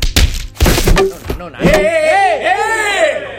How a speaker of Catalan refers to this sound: Que ha sonat un cop de pal! Per l'amor de Déu! Vale que teníeu les branques a mà, clar, però hòstia... Estan desmuntant la, et desmunten la cavalla i et foten un cop de pal a sobre...